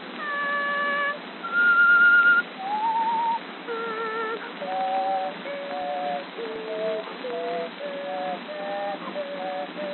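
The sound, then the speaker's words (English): Whistling with three tones sounding at once: a string of held, wavering notes that step and slide between pitches, steady and fairly loud, with no talking. “You ever hear me do those three tones at once?”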